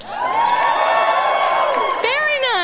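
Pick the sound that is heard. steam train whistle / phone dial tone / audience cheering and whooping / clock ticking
audience cheering and whooping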